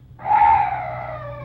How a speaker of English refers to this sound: Oh, what's that? Oh, some night birds. Yes, that's all.